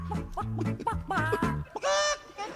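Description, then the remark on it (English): A quick run of loud chicken clucks, a sound effect played on The Todd Allbowles Show radio talk show, choppy and rhythmic, ending in a longer drawn-out squawk. No one speaks over it. “Don't be chicken.”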